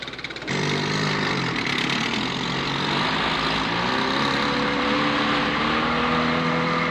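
motorboat engine running

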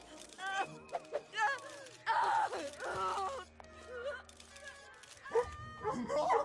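dog barking and growling

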